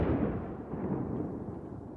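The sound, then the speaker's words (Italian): A deep, rumbling boom of a missile explosion, the missile released from a drone, its low roar spreading and slowly fading over a couple of seconds with no voices present. “Dopo alcuni secondi di attesa, avvertiamo l'esplosione senza capire dove atterri, finché ne sentiamo un secondo e aspettiamo ancora, trattenendo il fiato.”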